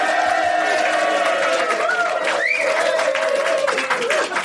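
A live audience at the King and Queen pub on Foley Street in London's West End bursts into sustained applause, dense clapping mixed with whoops and shouted cheers, loud for the whole stretch.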